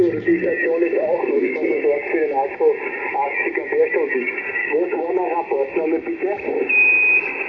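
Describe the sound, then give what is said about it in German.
Two amateur radio transmissions collide, doubling each other, with muffled, band-limited voices talking over each other through steady static hiss, and a brief whistling tone near the end. “Sorry, da habe ich jetzt das selber gedoppelt, bitte nochmal kommen.”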